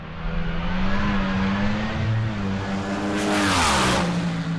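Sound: race car engine revving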